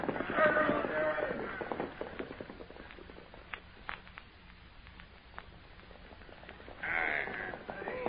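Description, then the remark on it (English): Hooves of soldiers' horses clip-clop in a loose, uneven rhythm, with raised voices or calls rising over them at the start and again near the end. “Soldiers, mount your horses.”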